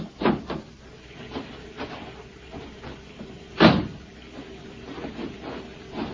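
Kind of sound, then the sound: household object, door opening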